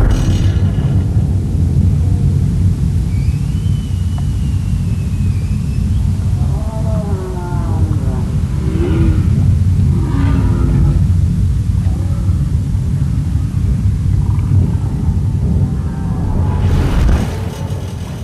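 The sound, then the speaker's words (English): A loud, steady underwater roar of boat engines in Glacier Bay fills the whole recording with dense low rumbling, while faint wavering tonal calls rise and fall through the middle section. “But still, the humpbacks that are there in the summer have to live alongside roaring boat engines.”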